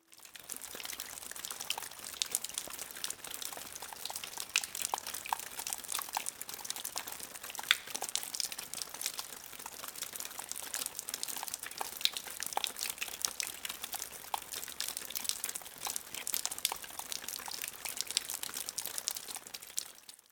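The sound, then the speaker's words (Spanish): Steady raindrops patter and tick without a break for about twenty seconds, a dense, crackly shower of small drops at a moderate, even level, with no voices. “El sonido sorpresa de hoy fue el de las gotas de lluvia.”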